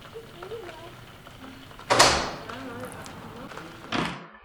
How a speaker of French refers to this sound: Allez, on pousse la porte. Et bonjour. Bienvenue au sein de Beau Milieu. Eh bien, merci. Pour ce premier épisode, nous voilà à Meymac, face à la maison Jean Guébordas.